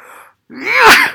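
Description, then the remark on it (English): A single loud sneeze into a man's elbow: a quick breathy intake, a brief pause, then a sharp explosive burst that fades within half a second. No one talks. “…'s still sneezing into his elbow 5 months into the pandemic”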